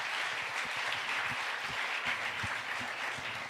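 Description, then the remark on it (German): A crowd claps steadily for a prize winner being called forward, a dense wash of many hands with individual claps popping out near the front, sustained at an even level throughout with no talking. “Ein Applaus.”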